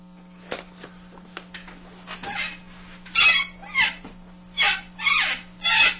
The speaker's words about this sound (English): The sound of my chair.